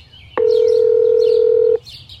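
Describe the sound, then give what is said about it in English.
A single loud, steady telephone keypad tone as someone dials to make a phone call holds for about a second and a half, then cuts off, with faint bird chirps in the quiet background. “It seems a phone call to Jolene is in order.”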